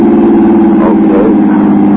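A car engine drones steadily at speed as the car is driven past the city limits, a loud, continuous low hum with layered tones that holds its pitch for the full two seconds, with no voices over it.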